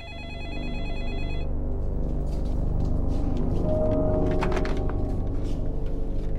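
A landline telephone rings with a bright, warbling tone for about a second and a half, then gives way to a steady, loud low rumble with no one speaking.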